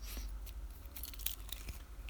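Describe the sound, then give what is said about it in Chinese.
Several crisp, crunchy snips of scissors sound in an irregular sequence over a low steady hum, as scissors are used in a role-played castration; each is a short bright burst like blades closing on something. No one speaks. “那我还是用剪刀先帮你剪一个下来看看。”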